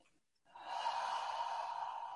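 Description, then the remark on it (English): After a brief silence, a long, steady rush of breath is drawn in, like several people inhaling deeply together, the airy sound staying loud and even until the end. “So let's all take a deep breath here.”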